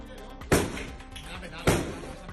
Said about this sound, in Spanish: El caso de seis policías tirando abajo de esta manera que escuchas una puerta de un domicilio situado en la calle La Gasca. Ocurrió el pasado 21 de marzo.